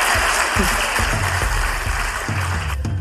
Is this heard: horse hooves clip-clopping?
no